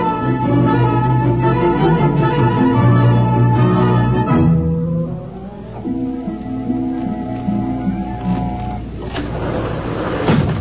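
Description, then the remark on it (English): A harsh electric buzz and mechanical whirring give way to the thud of sliding elevator doors, then a steady motor hum as the car rides to the basement, ending with doors opening again. “You buzz the elevator while I hide the recording.”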